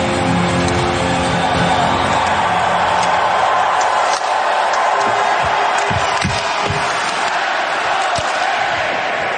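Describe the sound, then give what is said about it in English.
A hockey arena crowd at a Stanley Cup Final game roars and cheers the game's first goal, scored by the Hurricanes, in a dense, steady wall of noise that stays loud for the whole stretch, with a few dull thumps and bangs breaking through midway. “It was cool to just hear the crowd, though.”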